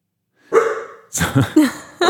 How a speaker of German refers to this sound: Wer hat denn jetzt den Hund geweckt?